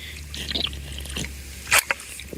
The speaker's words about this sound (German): Ein Schluck Wasser.